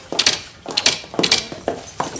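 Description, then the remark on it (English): Mechanical typewriter keys strike in quick clattering bursts, with sharp high-pitched clacks grouped in clusters of two or three, repeating steadily with short pauses between. “You just press the letters and they print on the paper.”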